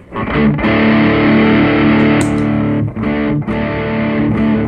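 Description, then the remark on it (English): A loud, heavily distorted electric guitar, played through a distortion pedal set at about three-quarters with the tone a bit past the 12 o'clock position, rings out in thick sustained chords, briefly choked and re-struck a few times, with no voices over it. “So that's the distortion pedal up at probably 3/4, with a bit more tone, so a bit over the 12 o'clock position for the tone.”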